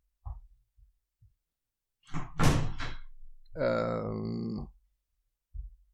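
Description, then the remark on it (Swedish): A door that had been banging in a gust of wind is pushed shut: a few soft knocks, then a louder bang and a drawn-out creaking groan, followed by a final dull thud. “Jag ska bara stänga den där dörren som står och slår på grund av vindpusten.”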